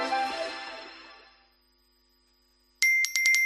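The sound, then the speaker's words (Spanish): A bright chime rings and slowly fades into silence, then a high electronic phone notification alert sounds as a quick stutter of four or five repeated beeps: 21,000 property owners receiving notice that their rent has been paid today. No one speaks. “Son nuestros 21.000 propietarios recibiendo el aviso de que hoy ya han cobrado sus rentas.”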